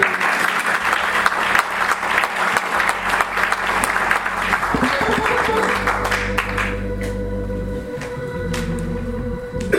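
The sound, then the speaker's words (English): An audience claps together in a dense, steady burst of applause for several seconds, then the clapping thins out as a low organ tone swells and sustains underneath. “Come on, give me a little hand clap.”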